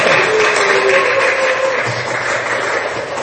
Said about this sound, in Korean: 이편을 굳건히 지키고 계셨던 이제 진짜 청년, 진청 교우님들이 한 곳에 모여서 예배를 드려주시고 계십니다. 이 모임을 예, 박수 한번 보내주세요.